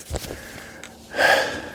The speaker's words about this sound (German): Ich bin wieder am Keuchen. So bergab geht das dann irgendwie doch gar nicht mal, wie ich gedacht habe. Ich bin auch extrem unfit, immer noch.